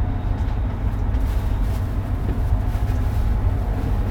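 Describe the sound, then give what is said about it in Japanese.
A steady, heavy low rumble of a shinkansen bullet train rolling into platform 21 at its final stop, Tokyo, continuous and unbroken for the whole stretch, with a faint high hum over it and no voices. “到着ホーム21番線、降り口は右側です。”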